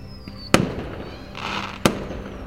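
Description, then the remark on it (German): Fireworks go off in two sharp, loud booms about a second apart, a thin high whistle fading out just before the first and a crackling hiss rising between them. “Wie viel Schwarzpulver sich wohl unter dem Gebäude befindet, um solch ein Meisterwerk von Feuerwerkskunst zu zaubern?”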